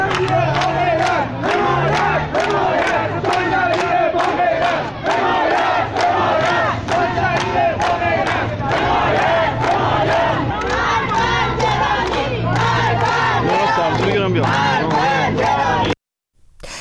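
A large crowd chants slogans in unison, voices rising and falling in a steady rhythmic cadence, loud and continuous for about sixteen seconds before cutting off abruptly.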